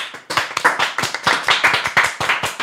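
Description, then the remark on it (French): A small group of hosts applaud themselves, clapping together in quick, uneven bursts, the sharp hand claps overlapping into brief applause that keeps going steadily for a few seconds. “Auto-applaudissement.”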